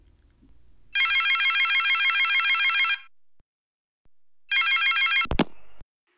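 A telephone rings in two bursts of rapid bell trills, the first lasting about two seconds, the second cut short by a sharp click as the receiver is picked up.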